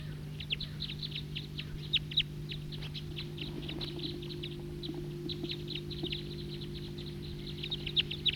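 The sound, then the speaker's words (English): A type 2 male bird, perched in a tree, calls repeatedly, giving a steady series of short, high chirps over about eight seconds, with a constant low droning hum underneath and no talking. “And there's another male calling there.”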